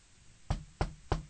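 Three firm knocks on a door in a quick, even rhythm, close and solid-sounding against a quiet background with no voices.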